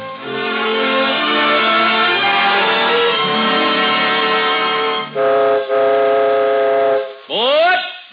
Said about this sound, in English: So, this first peacetime Christmas Eve, the Cavalcade of America takes you on an imaginary train ride, swooping all over the country, seeking out the names of places which stand for home in such a special way tonight.